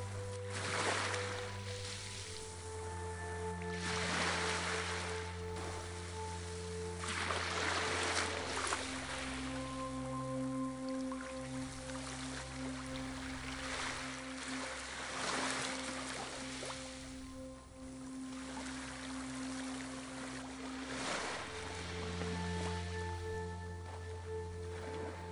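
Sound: ocean waves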